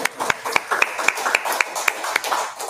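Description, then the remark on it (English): A steady run of about nine sharp, evenly spaced claps, roughly three or four per second, over a low murmur of background noise, like a crowd clapping together in rhythm, at Gem City Market. “Y'all can clap for that.”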